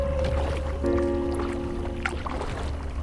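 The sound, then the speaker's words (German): Water sloshes and splashes softly around a small boat as two people paddle on the Als river, a paddle dipping in, with a low steady rumble and faint tonal hum underneath. “paddeln auf der Als.”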